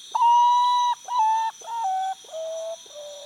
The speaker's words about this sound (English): They're birds more often heard than seen, with a melodious but mournful song made at dawn, dusk, and by the light of the moon. The song earned pottus the name Poor Me One in Trinidad and Tobago.